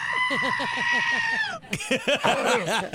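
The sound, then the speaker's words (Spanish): A goat bleats loudly in a long, wavering, tremulous cry, then breaks into a second shakier bleat after a brief pause. “Ese es el de la chiva, no sea baboso.”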